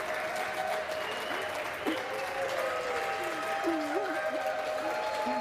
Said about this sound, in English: The yeas are 220. The nays are 211. The motion is adopted. The applause.